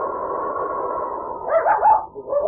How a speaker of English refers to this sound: In town, a small white dog whined and whimpered at the door of Riggs' living quarters. He wanted to be inside with his 12-year-old master.